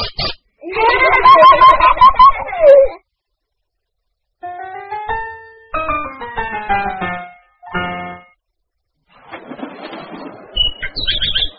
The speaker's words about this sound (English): Hello, Tweet Tweet. Oh, point to the bird, please.